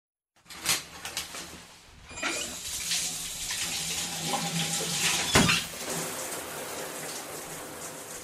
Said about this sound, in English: I know it's weird to start a show about art in the shower, but I'm going to start this show in the shower with ….